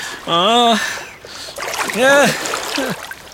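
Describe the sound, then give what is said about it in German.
Paddles splash and dip through water in a steady wash of noise, while a man's voice speaks briefly over the sound of the moving boat. “Ich fahre jetzt weiter.”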